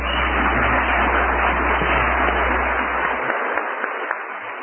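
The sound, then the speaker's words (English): An audience applauds Mr. Andrews steadily, a dense, sustained wash of many hands clapping at an even loudness from start to finish with no voices over it. “While you're in the mood, why don't we give Mr. Andrews a round of applause, too?”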